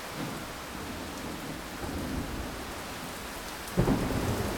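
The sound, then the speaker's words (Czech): Steady rain pours down in a continuous hiss while low thunder rumbles throughout, with a sharper crack of thunder near the end. No voices are heard. “No, takže teď tady sedím pod stromem a doufám, že do něj neuhodí blesk.”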